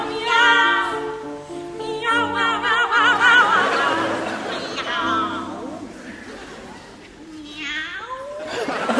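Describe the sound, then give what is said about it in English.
Two sopranos trade sung meows in an operatic cat duet, singing the word meow repeatedly with wide vibrato, overlapping playfully against soft piano accompaniment, rising and falling in loud, sustained phrases. “Rossini, for example, famously wrote a cat duet where he asked sopranos to stand on stage and sing the word meow repeatedly”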